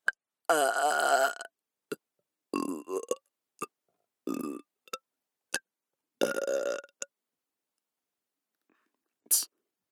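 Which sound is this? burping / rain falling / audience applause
burping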